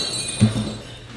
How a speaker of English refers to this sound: Ring the bell.